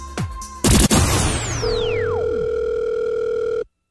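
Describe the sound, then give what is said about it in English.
A steady electronic telephone line tone hums for about two seconds as a prank phone call rings out, preceded by a loud crashing burst and a descending whistling sweep; no voices are heard. “The phone is ringing.”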